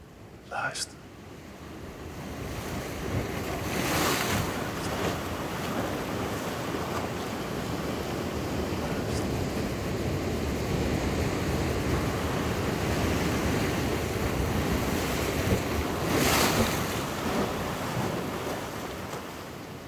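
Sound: sea waves and wind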